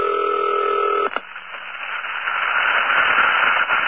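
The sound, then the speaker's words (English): A higher-pitched telephone ring sounds once as a steady electronic tone for about a second, then gives way to continuous hissing, crackling static that slowly grows louder. “Here's another type of ring.”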